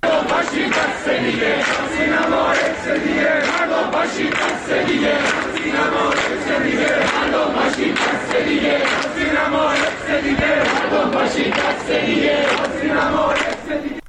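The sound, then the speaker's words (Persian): A large crowd of students at a protest gathering at the University of Tehran, Iran, shouts and chants together in a steady, loud roar of many voices, with rhythmic bursts of collective yelling rising above the constant din throughout. “همین ساعت‌های اخیر، از جمله در دانشگاه تهران که تجمعی به نظر میرسه همکنون هم در جریان هست، دانشجویان در واقع اتفاق رخ داده در زندان اوین رو بازتابی از تکرار حادثه آتش سوزی سینما رکس در روزهای منتهی به انقلاب سال 57 دونستن.”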